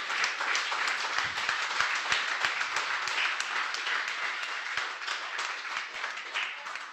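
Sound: audience applauding and cheering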